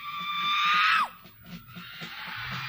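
A single loud, sustained shout lasting about a second, its pitch dropping sharply as it cuts off, followed by softer, diffuse crowd noise; a person shouts as a demonstration for one side of the audience to repeat.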